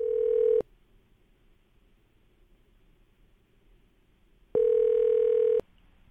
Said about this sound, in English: Actually, we got the phone ringing right now, so hold on. Okay.